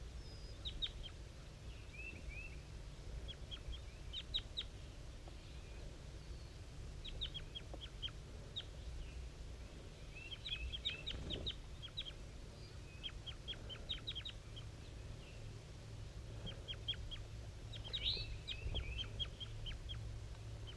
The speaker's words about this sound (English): 5-3 is a little bit higher pitched and the wild bird is a little bit lower. Up in the top of the dead pine. Very weak, soft calls coming from the wild bird.